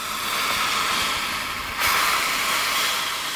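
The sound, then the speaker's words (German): A saw-scaled viper, a small snake averaging 30 to 50 centimetres long, repeatedly coils around itself and rasps its scales as a warning, a dry, continuous sizzling hiss that stays steady and fairly loud, briefly swelling brighter about halfway through, with no voices. “Eine Sandrasselotter windet sich immer wieder um sich selbst, schabt warnend ihre Schuppen.”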